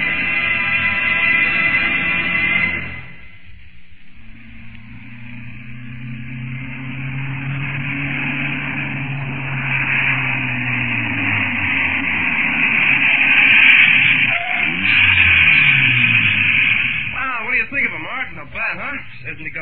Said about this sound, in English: 95 we hit back there. I didn't even have a flat out. Some car, all right. Even if she doesn't look it. You'd never guess she's got a jazzed up engine in her. Looks just like an ordinary car.